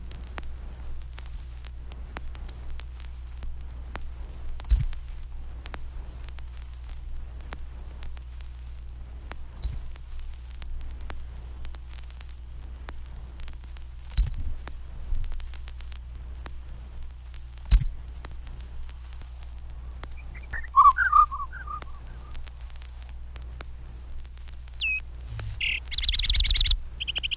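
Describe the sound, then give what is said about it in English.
A Henslow's sparrow song slowed to quarter speed repeats about every five seconds, each a brief drawn-out chirping phrase over a low steady hum, with a fuller burst of twittering notes near the end. “The cricket-like song of the Henslow sparrow often passes unnoticed in the hayfields.”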